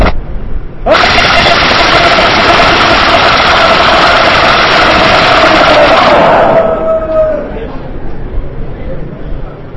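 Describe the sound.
A man's voice lets out one long, loud, raspy roar imitating a lion, a Narsingadev lion roar, held steady for several seconds before trailing off into a fading growl and quiet background.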